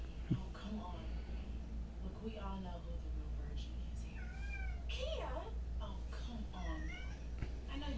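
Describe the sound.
A pet cat meows repeatedly in drawn-out, wavering cries, fairly loud, over a steady low background hum with some talking mixed in.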